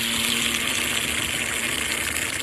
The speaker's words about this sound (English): So, again, this is the same molten metal being poured into something.